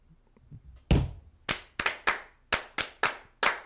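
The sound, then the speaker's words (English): A group claps together in a patterned ritual rhythm, about eight or nine crisp, loud claps landing as one, with short pauses and quick pairs between them. No voices. “The claps got me there.”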